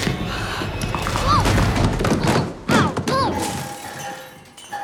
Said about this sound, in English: the boy jerkily crawls down the stairs, then rolls uncontrollably down the last few steps and bounces into the living room.